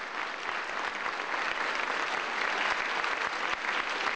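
Sustained, dense applause from a large standing audience as Hu Jintao enters the venue accompanied by principal Pistorius, many hands clapping steadily and evenly at a loud, constant level throughout, with no voices rising above it.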